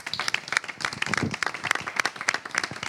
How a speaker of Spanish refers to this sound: Y le pido un aplauso para que ella se le quite los nervios.